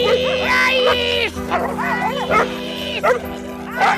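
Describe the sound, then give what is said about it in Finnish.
Outdoor suburban dog park ambience in Roihuvuori: several dogs bark and yip in overlapping bursts with some high whimpering, over a steady low background hum and faint indistinct voices. “Lähiökoirapuistossa jutellaan tällä kerralla kuivista kausista ja parhaista”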